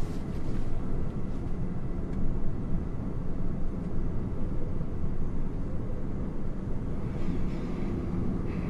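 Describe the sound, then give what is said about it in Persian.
A subway train rumbles steadily through a metro tunnel, heard from inside a metro car, a continuous deep roar with hissing undertones that stays loud and even throughout, with no voices. “تونل مترو. گیهان با ریش و موی بلند تو واگن مترو نشسته.”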